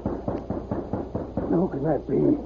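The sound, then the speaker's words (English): A quick series of about six or seven sharp raps on a heavily bolted wooden door, evenly spaced, followed immediately by a voice speaking. “when he heard a rap on the door.”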